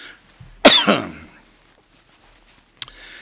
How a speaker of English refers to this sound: I've been good all day. Now I'm starting to cough.